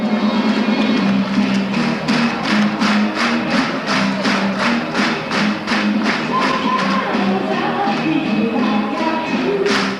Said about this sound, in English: We're listening to a recording someone made in the crowd at Wigan Casino in 1974. Wigan Casino was a place that became one of the epicenters of Northern Soul.